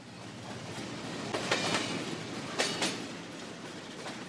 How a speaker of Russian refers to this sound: От знакомого города прочь, скорый поезд безудержным ветром все торопится в темную ночь, все спешит от заката к рассвету. Он стремится в бескрайнюю даль, свой маршрут не умея поправить.